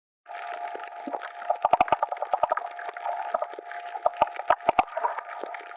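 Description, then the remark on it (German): Clownfish communicating underwater: a steady watery hiss carries bursts of sharp clicks and pops, some in quick rapid runs, others spaced out, with no voices. “So hören sich die Clownfische an, wenn sie unter Wasser miteinander kommunizieren.”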